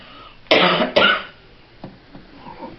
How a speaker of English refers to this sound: When I cough, I call it a lung push-up. And I say, thank you, I am loved. For I know that when I cough, my lungs are cleared.